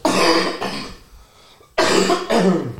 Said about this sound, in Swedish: Jag måste hosta, förlåt. Hosta på.